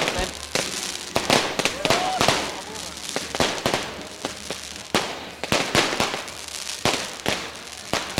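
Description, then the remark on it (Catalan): Firecrackers of a final traca at a festival go off in a rapid, irregular string of sharp, loud bangs and pops, some doubled up, with sparks falling and a murmur of voices underneath between the blasts. “Una mica de foc.”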